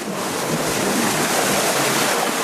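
Steady sloshing and churning of water as someone wades hip-deep through muddy black water in low-ceilinged tunnels where a leak lets water collect, a loud continuous wash filling the whole stretch with no voices.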